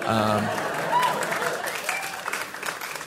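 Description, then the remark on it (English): Scattered audience clapping builds into moderate applause lasting a few seconds, with crowd murmur and a voice briefly audible at the start. “I'll hold for applause.”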